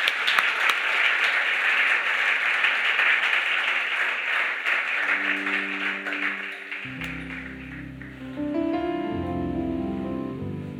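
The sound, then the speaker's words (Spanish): A standing church audience breaks into sustained, loud applause to the name of the Lord that gradually thins out as organ or keyboard music swells in underneath and takes over toward the end. “Vamos a levantar un aplauso grande al nombre del Señor, que lo merece todo.”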